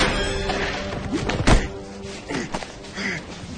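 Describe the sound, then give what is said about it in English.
A single dull, heavy thud as Silva punches Shen in the midsection beside an open cell in a prison corridor, followed by a few softer thumps and shuffling movements, with no one speaking. “Silva punches Shen in the midsection.”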